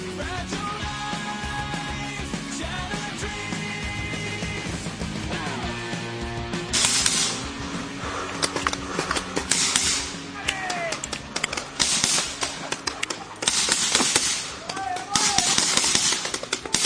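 Paintball markers fire in sharp, hissing bursts during a paintball game, some single pops and some quick volleys, scattered irregularly over several seconds after a stretch of steady tonal sound, loud.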